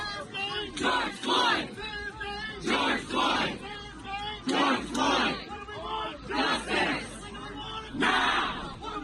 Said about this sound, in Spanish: Pues lo que queremos, justicia, cuando lo queremos, ahora. Están gritando en este momento los manifestantes mientras se producía esta manifestación en los alrededores de la Casa Blanca, una casa blindada.